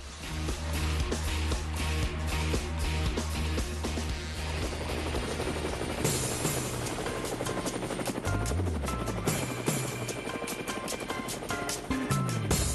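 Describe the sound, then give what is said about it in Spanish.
Helicopter rotor blades in Cuba thud in a fast, steady rhythmic chop, loud, continuing without a break for the whole stretch, with a rumbling engine roar underneath, as people board the helicopter. “Bueno, amigos de Cuba, llegaron las zafas del helicóptero, ahí las están ustedes escuchando como yo,”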